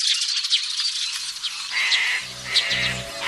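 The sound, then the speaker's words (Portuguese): A male bird calls during the breeding season, courting females, in a rapid series of sharp, high-pitched chirps and short whistles, and a lower, buzzy harmonic tone joins in toward the end. No one speaks. “Esta gritaria muitas vezes chama a atenção de outros machos, o que leva a uma confusão geral, fazendo a fêmea fugir.”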